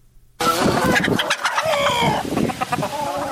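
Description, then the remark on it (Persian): A dense chorus of many chickens clucking and squawking, overlapping calls with a rooster-like crow rising above, continuous and busy after a brief quiet start, from over 1000 chickens kept on a poultry farm in a yard in Nili, Daykundi, central Afghanistan. “بیشتر از 1000 مرغ را نگهداری میکند.”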